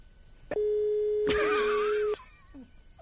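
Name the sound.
telephone ringing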